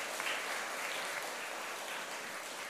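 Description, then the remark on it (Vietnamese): A crowd claps steadily in applause honoring teachers, a dense wash of many hands applauding at an even, fairly loud level throughout, with no voices rising above it. “Thì tất cả hãy dâng cao một tràng pháo tay thật lớn để tán dương các thầy cô giáo.”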